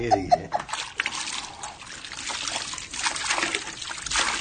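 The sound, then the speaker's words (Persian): Water trickles and splatters as a man wrings out a wet cloth in cold water, a continuous dribble with a few sharp drips at the start, no voices present. “آقا یوسف دستمالی رو توی آب سرد میچه.”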